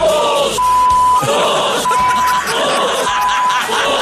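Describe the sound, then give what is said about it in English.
A loud arena crowd yelling and groaning in a dense, continuous roar, with three evenly spaced electronic beeps sounding over the noise. “Even the crowd gets involved.”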